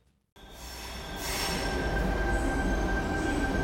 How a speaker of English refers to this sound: It's a weekday afternoon at Sydney's Martin Place train station. There's a handful of people on both platforms.